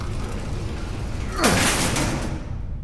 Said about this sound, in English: The elevator is slowing down. All right. Elevator doors lie just beyond the grate this elevator used. They're opening.